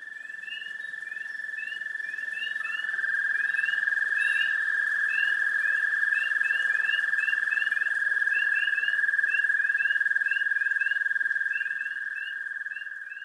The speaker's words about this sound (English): Spring peepers and other froggy companions croon in chorus around a Carroll County pond. They're proclaiming that winter is over.